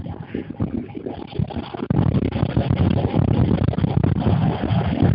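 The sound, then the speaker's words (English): A running car engine drones steadily, with a faint whine from a failing air conditioning bearing mixed into the rumble. The sound grows louder about two seconds in and holds there. “It sounds like the bearing on the air conditioning is going out.”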